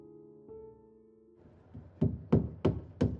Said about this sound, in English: I woke up at 2 a.m. to the refreshed sound of a hammer and nails in the backyard.